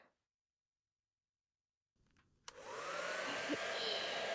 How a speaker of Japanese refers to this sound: 湯冷めして、風邪をひくといけないので、まずは髪を乾かしましょう。